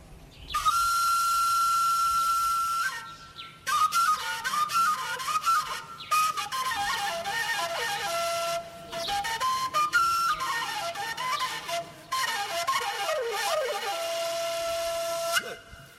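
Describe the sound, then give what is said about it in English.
A breathy, airy wombere, a four-hole pentatonic shepherd's flute, is played alone by a shepherd, a wavering melody of bending, sliding notes in several phrases separated by brief pauses, with a strong rush of breath noise behind the tone. “Bon, je vais vous présenter, on appelle ça le wombere. C'est une flûte à pentatonique, quatre trous.”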